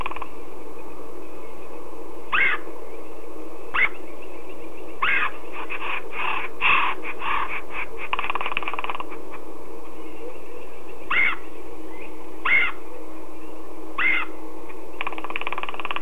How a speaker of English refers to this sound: You were listening to a little conversation by a red-headed woodpecker.